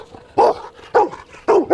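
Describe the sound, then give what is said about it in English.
A female working dog barks loudly on the command to speak, giving four sharp, evenly spaced barks in quick succession, the last two coming almost back to back, with no voices around them. “Hey, speak.”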